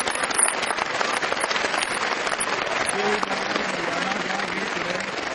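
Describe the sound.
A crowd claps steadily for several seconds, a dense, even patter of many hands at a constant loudness, with a faint voice briefly audible beneath it.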